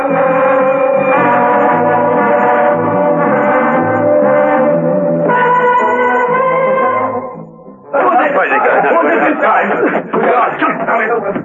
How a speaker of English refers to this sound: Steed heard the warning bells. It could only mean another escape.